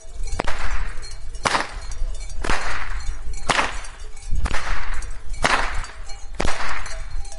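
A whip cracker (pokač) swings a rope whip, twisting it and then pulling it taut to one side. Sharp cracks ring out about once a second, six loud snapping bursts in a steady rhythm, each followed by a brief rushing swish through the air.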